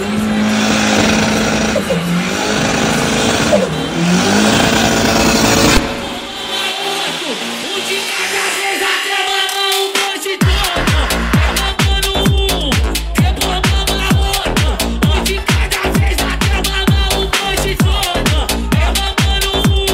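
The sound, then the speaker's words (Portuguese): A Corsa car's engine revs loudly in a few rising and falling bursts, then drops away as a pounding, bass-heavy rhythmic beat takes over. “Cala a boca e escuta o som do meu Corsa.”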